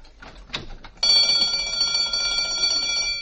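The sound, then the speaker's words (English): A few soft clicks and rustles as a restaurant door is opened, then a loud electric burglar alarm bell bursts into continuous ringing, a steady metallic clatter that keeps going without pause to the end. “Don't get nervous, folks. It's just the burglar alarm.”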